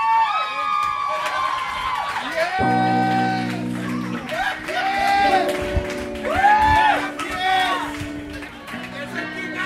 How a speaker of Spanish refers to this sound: Vamos a darle un fuerte aplauso a Santópolis.